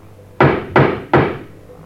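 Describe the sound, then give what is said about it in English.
Three firm knocks on the wooden door of a house with broken windows, fence and gate, evenly spaced about a third of a second apart, fairly loud, each with a short resonant decay and no voices. “Knock again.”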